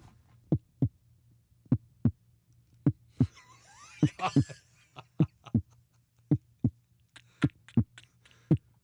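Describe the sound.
A voice imitates a heartbeat with throaty thumps in a steady lub-dub rhythm, fairly loud, with a brief breathy rustle partway through and a faint low hum underneath.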